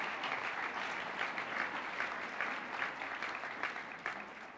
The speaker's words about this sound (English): So could you give our special guests a big round of applause tonight? Could we do that?